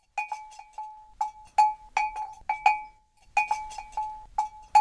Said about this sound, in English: He heard a bell. It was a camel train. A camel train coming down the back hill behind the tent.